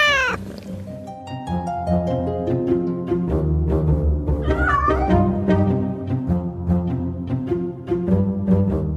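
A pet cat named Lucija meows several times, with drawn-out, sliding cries that are fairly loud over a steady, continuous tonal background.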